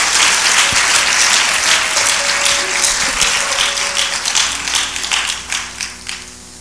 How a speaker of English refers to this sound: Well, clap your hands. I feel something on that.